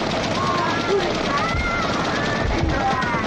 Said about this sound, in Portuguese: Então, fuzileiros, fuzilem a segunda fila!